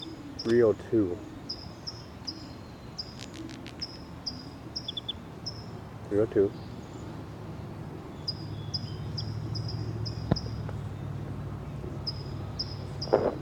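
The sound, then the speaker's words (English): Bird song: a steady series of short, high-pitched chirps repeating in a regular rhythm throughout, fairly faint, with a man's voice briefly speaking over it twice. “Start recording bird”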